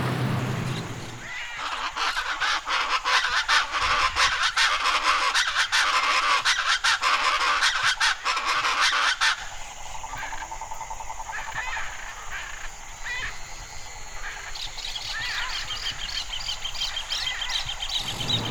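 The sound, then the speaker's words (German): Evening ambience at a lake in front of a house: a dense chorus of honking and squawking waterfowl fills the first half, then thins to scattered calls and chirps over a steady outdoor hum. “Und gestern zur selben Zeit bin ich noch zum See vor unserem Haus gegangen und habe noch aufgenommen, wie es da klang.”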